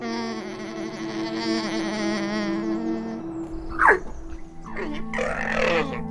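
A soft, steady animal hum with a slightly wavering tone, like a quiet 'hm' the animals use to communicate, drones for several seconds, then gives way to a few brief breathy, snort-like bursts. No one speaks.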